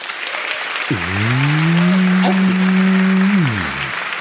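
crowd, audience applause

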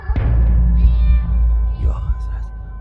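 animal, cat meowing

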